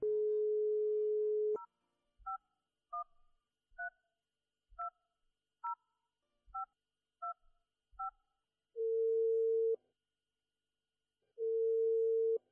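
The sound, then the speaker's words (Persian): A steady telephone dial tone gives way to a quick run of about nine touch-tone keypad beeps as someone picks up the receiver and dials a number written in the corner of a picture, then long ringing tones repeat on the line. Clear, with no voices. “گوشک تلفن برداشت و شماره را گرفت.”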